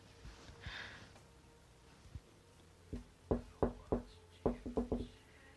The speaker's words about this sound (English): That's such a fucking weird knock. Why'd I do that?